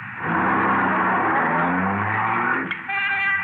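car accelerating away

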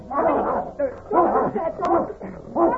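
dog barking

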